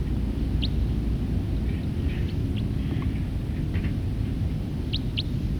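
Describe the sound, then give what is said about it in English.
A few short, thin, high-pitched bird flight calls come at scattered moments, a pair of them in quick succession near the end, over a steady low rumble of wind noise. “Calls of that bird.”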